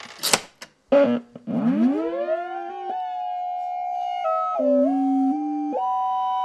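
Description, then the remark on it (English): A few sharp clicks, then a Dewanatron coin-operated melody gin, a bread box-sized electronic synthesizer worked by inserting a quarter into a coin slot taken from a commercial washing machine: a loud buzzy tone swoops upward, settles, and steps between several held pitches, with no voices. “Well, one model called the coin-operated melody gin requires the insertion of a quarter into a coin slot, which was taken from a commercial washing machine.”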